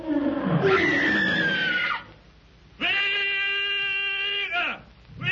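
A lion, Numa, roars twice as it attacks, loud: a rough, strained first roar, a short pause, then a longer, steadier roar that trails off abruptly.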